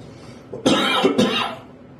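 Two harsh, raspy coughs in quick succession, close and fairly loud, with a brief throaty lead-in; no one speaks, and the room goes quiet after the second cough fades.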